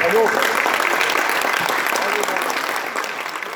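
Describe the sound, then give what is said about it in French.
An audience applauds the good news of a favourable opinion on listing the Maison Carrée as a UNESCO World Heritage site, a dense wash of clapping that holds strong for several seconds before easing slightly toward the end, with a few voices faintly mixed in. “Je pense que ça mérite quelques applaudissements.”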